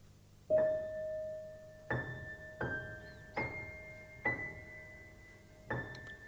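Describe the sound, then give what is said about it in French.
A bell signaling the end of supper chimes six times at an uneven pace, each clear metallic strike ringing on and blending into the next before a fresh hit, moderately loud, with no voices. “La sonnette de fin de soupe venait de carillonner.”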